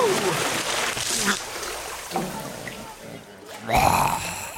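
A sudden heavy splash as someone jumps into a pool, fairly loud, with churning and sloshing around it and brief vocal sounds mixed in.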